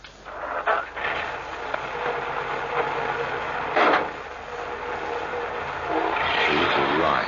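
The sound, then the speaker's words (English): A car drives along with a steady, moderately loud engine and road rumble, swelling briefly a couple of times and growing a bit rougher toward the end, with no voices. “Now, I'll put you under the rug in the back of the car and I'll take you for a little ride.”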